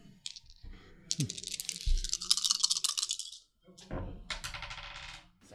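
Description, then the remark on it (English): Dice are rolled in a game, rattling and clattering in two bursts of quick, bright clicking, the first longer and louder, then a second shorter roll. No one speaks. “The dice show a success, a success, a success with strife, and a success with strife.”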